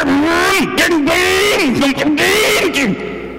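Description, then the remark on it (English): A man's voice loudly imitates a 2025 Corvette E-Ray sports car accelerating, a continuous revving hum that climbs in pitch, drops and climbs again several times like quick gear shifts. “2025 Corvette E-Ray with a huge spoiler on the back. I got in that thing and it goes.”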